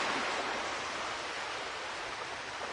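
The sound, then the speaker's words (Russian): Steady, dense wash of sea water churning and splashing as a bull swims in the sea, a continuous rushing hiss with no breaks, even in loudness, with no voices. “Я тебя в море загоню! Плыви! Вода быстро успокоит!”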